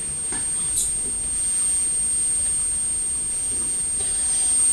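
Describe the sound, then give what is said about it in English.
A bin lorry's engine runs with a steady, noisy rumble, broken by a few dull thuds as men throw rubbish bags into the back of the lorry, with no voices. “You can hear the engine, but also you can hear the thud as the men are throwing the bags into the back of the lorry.”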